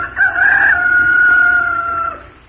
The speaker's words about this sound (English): It was a rooster, of course.